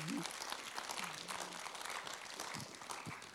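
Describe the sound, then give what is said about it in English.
A church audience claps steadily as a pastor comes up to preach, a dense, even wash of many hands at a fairly soft level, with a few faint voices murmuring underneath. “Give him a huge clap as he comes.”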